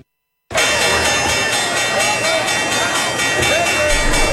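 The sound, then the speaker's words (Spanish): A loud, continuous bell rings for about four seconds, its bright metallic tones holding steady after a brief moment of silence at the start. “Ya, está sonando la campana.”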